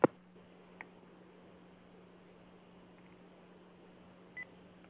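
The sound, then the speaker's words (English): A short electronic phone beep sounds near the end over a steady low hum as a call is switched to another phone after the battery ran out, following a sharp click at the start and a faint tick; no one speaks. “My phone just ran out of its battery. I got a shift on you, so hang on.”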